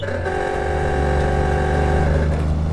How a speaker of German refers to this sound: Jetzt werden wir die nächsten 200 Meilen hübsch langsam fahren, damit sich das Ding einläuft.